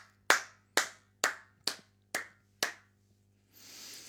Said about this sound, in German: So, super, hier, toll, da stehe ich auf. Da stehe ich auf und muss klatschen, ganz ehrlich.